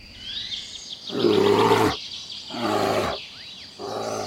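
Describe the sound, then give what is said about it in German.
Three deep, loud growling roars like a bear's, each about a second long with short pauses between, while high birdsong chirps continue in the background. “Jetzt bist du ein zausiger Zotteliger Bär.”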